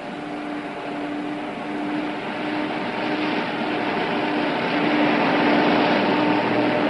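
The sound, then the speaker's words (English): A large vehicle's engine drones steadily, a broad rumbling roar with a low humming tone, gradually growing louder over several seconds as a bus of United States Marine Corps recruits pulls in at Parris Island training base at 2 o'clock in the morning. No voices. “It's now 2 o'clock in the morning, and this bus is not late.”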